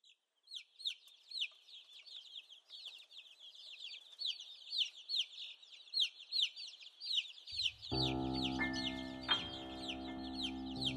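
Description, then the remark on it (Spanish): A crowd of chicks peeps constantly in rapid, high-pitched chirps, with hens clucking among them. Partway through, a sustained musical tone enters beneath the chirping. “Los pollitos dicen pío, pío, pío, cuando tienen hambre, cuando tienen frío. La gallina busca el maíz y el trigo, les da la comida y les presta abrigo.”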